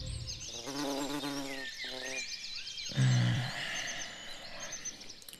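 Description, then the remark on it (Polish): Birds sing continuously with quick, high chirping and twittering trills throughout, fairly busy, while brief low voiced sounds rise beneath them in two short bursts. “Dlaczego nie słyszysz, jak pięknie śpiewają ptaki?”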